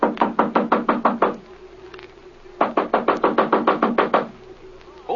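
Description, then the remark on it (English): Two loud bursts of rapid knocking on a wooden door, about eight evenly spaced raps each, separated by a pause of roughly a second and a half. “Knock on that door there,”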